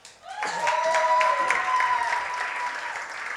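An audience breaks into sustained applause, a dense steady wash of many hands clapping that swells quickly and holds loud for several seconds, with some cheering tones mixed in.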